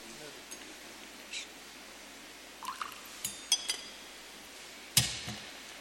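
Water trickles briefly into wine in a chalice during the Mass, with a few soft metallic clinks, followed by a sharper clink near the end, all quiet against a faint background hiss.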